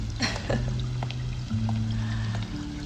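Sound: rain falling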